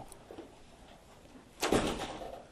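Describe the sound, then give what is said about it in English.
After a quiet stretch, a door is pushed shut with a single solid thud and a brief rattling latch sound that fades out. No one speaks. “I just closed your door. I'll go lock it.”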